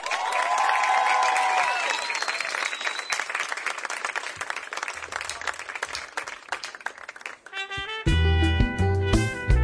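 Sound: loud applause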